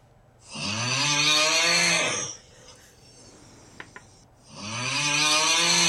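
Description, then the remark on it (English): Two loud, rasping snores from a man, each a long drawn-out rattle lasting nearly two seconds, separated by a quiet pause with a faint click, prominent with no talking. “That's someone snoring.”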